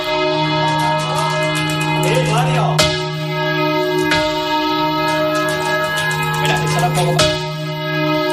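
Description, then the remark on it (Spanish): Church bells in Spain rung by hand in the traditional Spanish manual bell-ringing style, announcing festivities: a dense layer of sustained ringing tones with repeated sharp strikes cutting through, loud and continuous throughout, with a faint murmur of voices beneath. “La Organización de las Naciones Unidas para la Educación, la Ciencia y la Cultura, la UNESCO, ha declarado Patrimonio Inmaterial de la Humanidad esto que estabas escuchando, el toque manual de campana español.”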